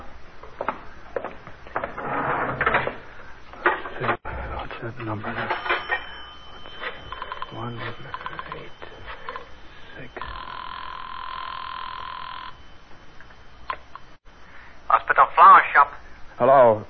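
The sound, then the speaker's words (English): A telephone on a building floor, in front of someone's door, is dialed with a few clicks, then a steady tone sounds, followed by short bursts of ringing near the end. A man talks over the start. “I'd have to make another phone call. Well, there's a phone on this floor right in front of Murdoch's door.”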